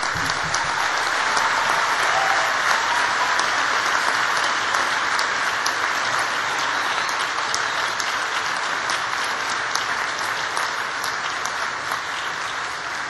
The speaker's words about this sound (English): Class of 2015, I want you to all stand up, please, all of you, so that you can turn around and give a big round of applause to all your supporters.